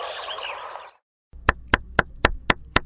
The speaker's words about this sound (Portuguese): Por volta das 10 horas da manhã, ele bate a porta da casa